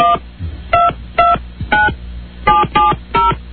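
A phone number is dialed for a call on a radio show: a quick run of about nine bright, clipped touch-tone beeps in uneven groupings, each a distinct dual-pitched chirp, with no talking.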